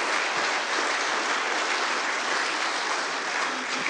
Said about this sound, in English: we're going to say thank you to these four right here. Would you give them a round of applause here? Thank you.